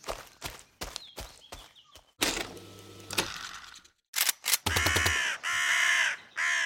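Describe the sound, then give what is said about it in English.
A crow caws repeatedly, loud, with harsh rasping calls in uneven bursts, mixed with scattered clattering and knocking sounds like hooves or footsteps. “I thought I saw something. Just a bird.”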